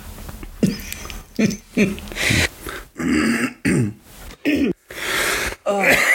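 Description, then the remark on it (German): A run of harsh coughs and throat clearing, about eight rough bursts in quick succession separated by brief silences, fairly loud with a raspy, breathy texture. “Du musst hier schon wieder rumhusten.”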